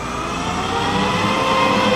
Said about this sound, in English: Looks good. Sounds like Angry Bees. What's your RPM? All motors green. Sounds like Angry Bees. That's a whole lot of engines mounted on the aircraft there in a NASA test.